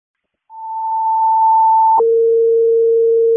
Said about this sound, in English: Seat down, can you pull out a second ambulance to the scene, please? Toning out second ambulance to the scene.